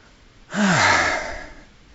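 A single heavy, breathy exhale starts after a brief pause and lasts about a second, with a slight voiced edge like a tired sigh, then trails off, from someone hiking just after a short uphill sprint.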